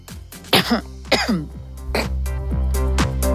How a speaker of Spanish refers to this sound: Perdón, que... Me dio un poquito tos.